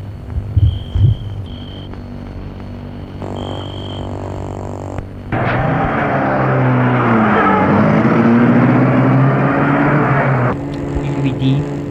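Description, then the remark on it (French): A chauffeur-driven Rolls car engine idles with a steady low hum, then roars louder as the vehicle pulls away and accelerates, its pitch climbing before the sound drops off near the end. “Elle le fait entrer dans la voiture.”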